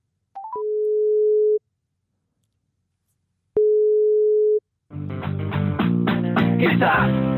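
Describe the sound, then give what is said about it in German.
A few quick rising beeps, then a telephone ringback tone: two long, steady mid-pitched tones separated by a pause of silence, after which hold music starts playing. This is a phone call to Olaf Schulze, mayor of Gistacht. “Wir klingeln mal beim Bürgermeister von Gistacht durch, Olaf Schulze.”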